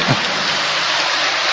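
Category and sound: crowd, audience applause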